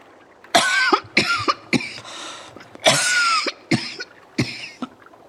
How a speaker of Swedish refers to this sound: Du hostar så konstigt ibland, mormor. Du låter som Vilma på gården hemma när hon hade kikhosta.